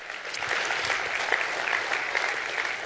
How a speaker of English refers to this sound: I belong to Jesus. Let's go ahead and clap for that.